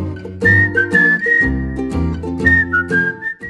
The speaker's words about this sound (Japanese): そしてそして、もうすっかりレギュラー定着、大好評生演奏の口笛による和み系お気軽 BGM。